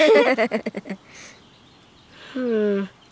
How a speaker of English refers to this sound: That didn't sound like a squawk. What's that? Those are wild geese. They're not super squawky, though. They sound more like a dog's chew toy. Or a rubber duck for the bath.